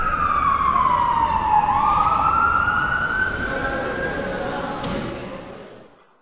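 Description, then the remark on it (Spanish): Loud wailing sirens of police cars and ambulances sweep down and back up in pitch over heavy road traffic rumble, before fading out at the end. “En contraste co ruido estrepitoso das sirenas dos coches da policía e das ambulancias, que non deixei de oír en todo o día”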